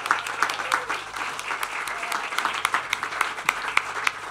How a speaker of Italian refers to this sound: un applauso